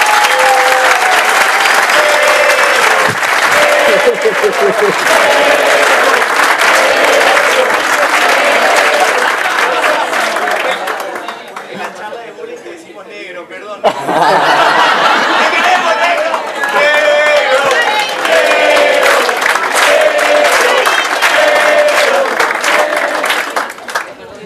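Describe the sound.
Loud, sustained audience applause with dense clapping and a crowd's cheering voices mixed in, briefly thinning around the middle before swelling again and continuing to the end.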